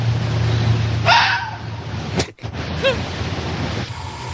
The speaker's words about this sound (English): This call is used by adult foxes to warn their cubs of other foxes in danger.